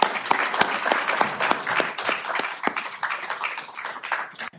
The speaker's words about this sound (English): So big round of applause. Thank you, guys.